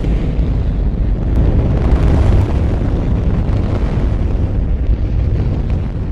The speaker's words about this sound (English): in 1965, a Saturn rocket's first stage was put into the test stand, clamped down, fueled up, and the engines were ignited.